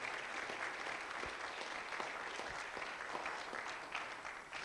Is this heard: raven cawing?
no